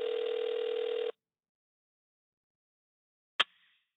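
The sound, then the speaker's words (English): A telephone call tone sounds once for about a second, steady and buzzy, as someone places a phone call, followed by silence and then a single sharp click like the line being picked up. “So let's get him on the phone.”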